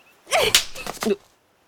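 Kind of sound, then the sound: impact, slap across the face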